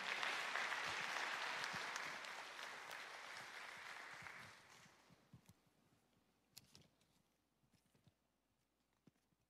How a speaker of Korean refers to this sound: 그리고 우리 교회에도 청인부 두 분이 오셨는데 고맙습니다. 큰 박수를 한번 모시겠습니다.